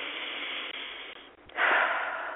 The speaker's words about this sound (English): I'm going to breathe. I'm breathing all along, but I think deep breathing is extremely important, especially when we're discussing important topics like this.